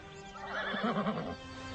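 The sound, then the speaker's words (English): A horse whinnies once while rearing, a short, wavering neigh that rises and trembles for about a second before fading, moderately loud over a faint background hiss. “Well, yeah, I'm supposed to jump the fence and then make the horse rear and then gallop off.”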